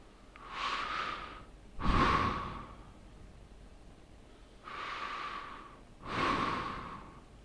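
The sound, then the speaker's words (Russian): Two slow, deep breaths, each a long airy inhale followed by a fuller, louder exhale, with brief quiet pauses between and no talking. “Сделайте несколько глубоких дыханий.”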